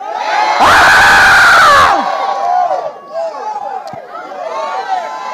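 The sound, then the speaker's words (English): An audience erupts in loud screaming and cheering in praise of God, a dense burst of shouting voices that peaks in the first two seconds, then settles into a sustained roar of overlapping cries and whoops. “Somebody scream.”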